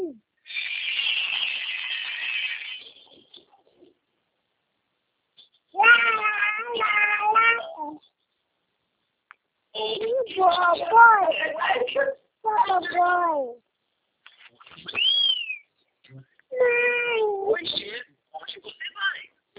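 A cat meows repeatedly in several drawn-out, wavering calls separated by short pauses, clear, with a breathy hiss-like sound at the start.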